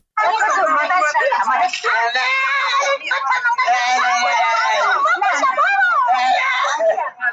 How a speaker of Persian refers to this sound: فریاد نوجوانی که آه و نالش به گوش افراد منصوب به پلیس ایران نرسید. ویدیویی که تازه در شبکه‌های اجتماعی نشر شده و نشان می‌دهد یک نوجوان در جاده از سوی پلیس ایران لتوکوب و شکنجه می‌شود.